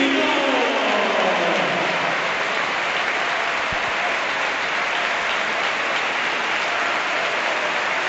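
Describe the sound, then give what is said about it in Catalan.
A stadium crowd applauds steadily, a dense wash of clapping that fills the whole clip at a loud, even level with no voices on top, as Nico Jackson is substituted off in a Villarreal match. “El camp aplaudís a Nico Jackson, Jackson, Jackson, Jackson.”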